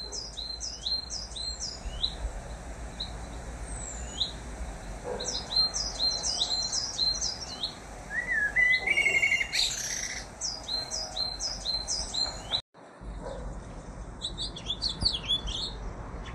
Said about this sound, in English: The blackbirds whistled.